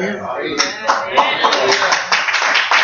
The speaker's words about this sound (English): And I'm glad you're clapping because I hope you know that the reason you can clap is because now if you've given your life to the Lord, when God looks at you, instead of looking at you, he looks through his Son.